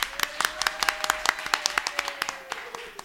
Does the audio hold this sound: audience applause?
yes